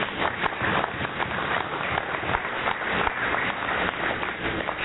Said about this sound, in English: I think we should do a round of applause to all of you.